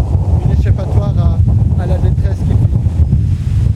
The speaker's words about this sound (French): Il y a un grand vent, c'est oui, hyper connu ici. Hein. C'est ça ? Ouais, c'est hyper connu.